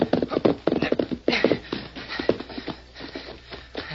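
A horse named Victor gallops, its hooves clopping in a quick, steady rhythm, then loosening and spacing out as it slows to a stop. The hoofbeats are fairly loud, with no voices.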